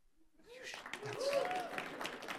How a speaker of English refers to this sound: No, that's not good enough. You guys there should be rowdy applause. We are set to break ground in April. Yes, yes, yes. Those of you who didn't clap loud haven't been on setup for the past 8 years.